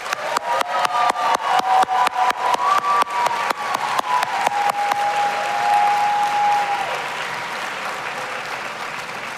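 Applause for Executive Master of Health Administration and Master of Health Administration graduates: many hands clapping steadily, with sharp rhythmic claps early on that blend into a dense wash, plus a few whistles and cheers rising above the crowd before it fades slightly.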